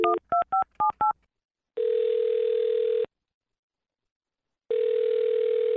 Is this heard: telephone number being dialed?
yes